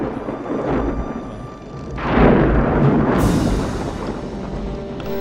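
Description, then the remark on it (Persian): A roaring storm with a deep, continuous rumble that swells louder about two seconds in, then turns harsher and hissier as gusts build, with no voices. “طوفان شده، بلند شید تنابه رو محکم کنه.”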